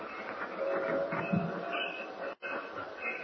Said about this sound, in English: Well, it wasn't a very long ride. No, only 1 hour. This is fast train. Some trains take 1 hour and 40 minutes.